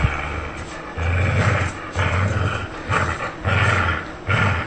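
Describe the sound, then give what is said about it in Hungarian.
A dog growls during a playful tug-of-war in a series of low, rumbling bursts, roughly one per second, fairly loud, with brief pauses between each throaty growl. “Ez egy 40 fős mintán zajlott, és itt szintén különböző szociális helyzetekben tettünk fel morgásokat. Volt ilyen játékos húzóvonat.”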